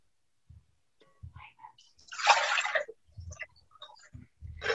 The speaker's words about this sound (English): will pour the water.